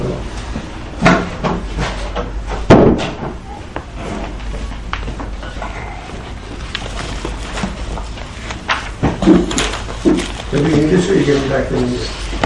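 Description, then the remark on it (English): A door swings shut with a single solid thud partway through a Mishnah study class, amid steady room noise, shuffling and faint indistinct voices in the background. “Maybe we'll just close the door, it would be helpful for me.”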